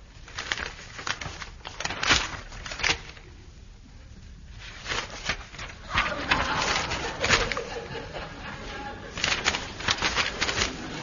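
Bird calls sound repeatedly over about ten seconds, a mix of chirps and soft cooing mixed with sharp clattering bursts, moderately loud, with no one talking.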